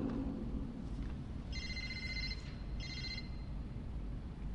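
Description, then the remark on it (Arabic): A telephone rings in two short electronic bursts separated by a brief pause, the trilling tone sitting clearly above a steady low background hum, with no one speaking. “كيف سكت التليفون؟”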